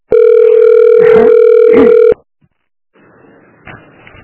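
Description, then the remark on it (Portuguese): A loud, steady telephone ringback tone on a call to the Unidade de Saúde Cachoeiras health unit holds one buzzy mid pitch for about two seconds, then cuts off into silence followed by faint line hiss. “Você ligou para Unidade de Saúde Cachoeiras. Aguarde para ser atendido.”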